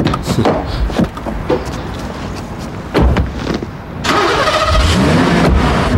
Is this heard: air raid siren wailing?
no